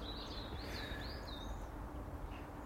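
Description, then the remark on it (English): Faint birdsong on a crisp, frosty morning after a cold night: a few thin, high chirps and short warbling phrases drift over a steady low rumble of background noise, with no one speaking. “So this morning, you might hear a little bird song.”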